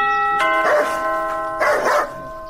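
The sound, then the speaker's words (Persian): An electronic doorbell at the gate of a house sounds a steady, ringing tone that holds to the end, while the householder's dog barks loudly in two bursts over it. No one speaks. “تو پاش که یک دفعه می زنگ دروازه را بزنم.”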